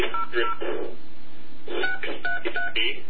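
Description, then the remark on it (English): A quick run of telephone keypad dialing tones on an AT&T phone line, short electronic beeps in two bursts separated by a brief pause, clear with no talking. “Please dial the number that you're calling.”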